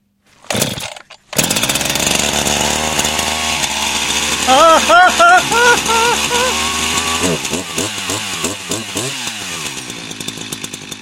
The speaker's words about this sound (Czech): co máte v plánu s tou řetězovou pilou?